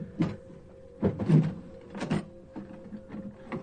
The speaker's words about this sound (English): Open the drawer, Jane.